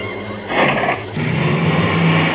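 A car engine starts up and revs steadily, its low rumble growing as the vehicle pulls away on the road, with no voices.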